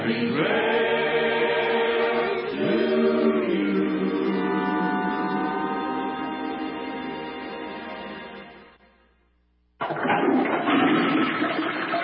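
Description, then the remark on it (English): A tuneful melody fades to near silence, then a loud toilet flush bursts in abruptly with a rushing whoosh of water that carries to the end. “Hear that? That's the sound of nearly 3 million American jobs being flushed down the toilet.”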